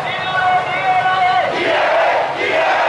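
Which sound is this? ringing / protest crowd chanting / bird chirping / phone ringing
protest crowd chanting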